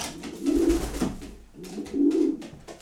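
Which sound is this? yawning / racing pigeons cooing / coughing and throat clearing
racing pigeons cooing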